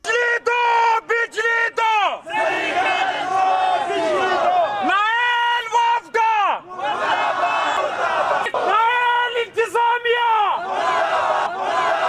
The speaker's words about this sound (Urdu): زرعی کالج کے طلبہ نے احتجاج سیول سیکریٹریٹ کے قریب کیا. احتجاج میں طلبہ کی ایک بڑی تعداد شریک تھی. اس موقع پر انہوں نے اپنے مطالبات کے حق میں نعرے بازی کی.